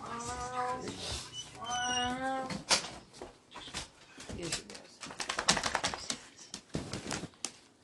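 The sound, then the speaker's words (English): A female cat in heat lets out two long, wavering yowls, followed by a stretch of irregular clattering and tapping noises. “Bro, this cat sounds like an old woman. Listen to her. It's in heat.”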